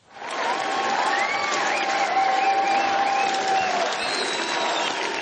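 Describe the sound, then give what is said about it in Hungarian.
A large crowd of Fidesz-KDNP supporters cheers and applauds loudly and steadily for minutes, delaying Viktor Orbán's victory speech in Hungary: a dense wash of clapping with shouts and whistles rising above it, sustained without a break for the whole stretch. “Sokáig nem tudta elkezdeni győzelmi beszédét Orbán Viktor, a tömeg percekig hangosan éjjenzett és tapsolt.”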